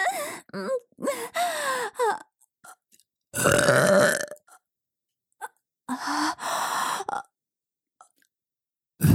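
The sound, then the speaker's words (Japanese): A series of loud burps, some drawn out and croaky, separated by short pauses, with one especially long rumbling belch in the middle and no talking. “おしっこゲップ最高です。”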